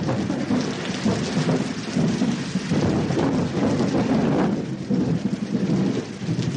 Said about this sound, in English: But when the weather is bad, there's not a lot to do except listen to the thunder dropping 40,000 feet through clouds that spread out for miles.